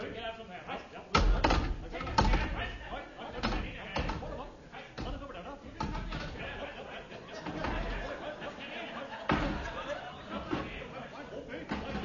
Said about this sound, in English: the sound you are hearing is that of Seagoon and Eccles balancing chairs one on top of the other